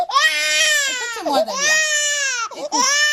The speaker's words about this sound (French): Se lever la nuit est une torture, les pleurs de l'enfant deviennent de plus en plus agaçants